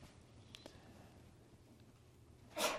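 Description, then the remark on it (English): A single sharp sneeze bursts out near the end after a stretch of quiet background noise, brief, with no talking around it. “God bless you.”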